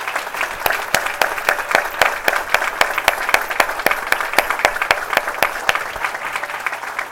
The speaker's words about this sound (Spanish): Entonces yo les voy a pedir que por favor se pongan de pie para que toda la iglesia los vea. Sí, los invitados. ¡Wow! Vamos a darle un aplauso a ellos.